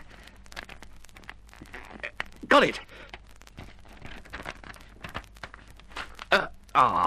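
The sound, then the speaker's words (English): A few sharp, crackly bursts of paper tearing as a skewer is poked through paper to drag something out, one midway and two close together near the end, among faint rustling and handling noises, with a brief spoken remark. “Now, I'll see if I can poke it through the paper and drag it out.”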